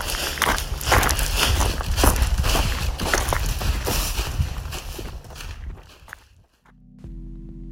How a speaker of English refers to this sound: You can hear in that clip the sounds of gravel and leaves crunching, and you may be able to hear other people enjoying the trail too.